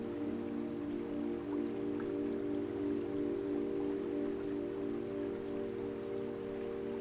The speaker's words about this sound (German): Du läufst in die Richtung, aus der du das Geräusch gehört hast. Das Plätschern des Flusses wird stärker und stärker.